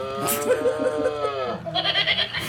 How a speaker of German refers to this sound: Ich hatte zuletzt bei Seniorenkreis eine Lachrunde, es waren 50 Senioren und ich hatte mehrere so Tiere, die sich kugeln vor Lachen und die wollten sie gar nicht mehr aus der Hand geben und haben so einfach mitgelacht, so mit der Kuh.